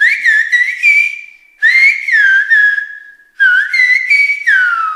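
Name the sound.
silbo Gomero whistled language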